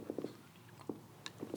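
Someone takes a quiet sip of a drink: a few soft, quick wet mouth sounds and a small gulp, spread over a moment, with no talking.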